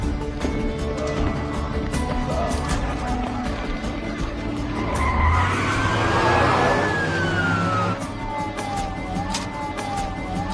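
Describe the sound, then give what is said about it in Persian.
A car engine roars and pulls away amid a dense wash of noise, its tires letting out a long rising screech and then a wavering squeal as it speeds off. “ماشینتون رفت.”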